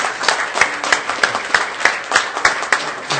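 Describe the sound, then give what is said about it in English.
A church audience applauds a man who came up to the front, steady rapid clapping from many hands with a few sharper, louder claps punctuating the even, moderately loud wash. No one speaks over it. “And let's give him a hand, church.”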